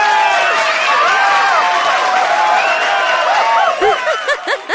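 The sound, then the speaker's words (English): A canned applause sound effect: a steady, loud wash of clapping and crowd cheering with high whoops and whistles rising over it, lasting a few seconds before starting to thin out at the end. “John, cue the applause SFX.”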